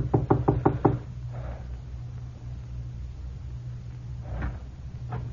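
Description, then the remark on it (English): Five quick, evenly spaced knocks rap loudly on the wooden door of a friend's house, then fade into a low steady hum with a couple of faint bumps afterward. “I made sure no one was following me and knocked on the door.”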